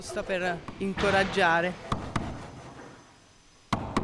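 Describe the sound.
Several sharp knocks on a wooden wall painted with arabesques, a stage set piece from a 1913 Aida opera production under repair, two quick raps then a pause before two more, following a brief stretch of voice at the start.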